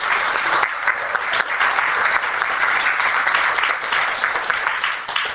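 A crowd claps steadily, a dense, even wash of many hands that holds loud and sustained for several seconds with no one speaking over it.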